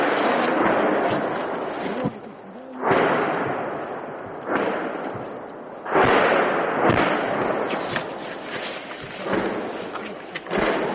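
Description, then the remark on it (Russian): Soldiers fire an SPG recoilless gun and the Russian army answers with Grad multiple rocket launcher fire: about six loud, booming blasts at irregular intervals, each trailing into a rolling rumble, with constant roaring noise between them and no voices. “Бійці наводяться, дають команду «постріл». Після пострілів прилітає відповідь.”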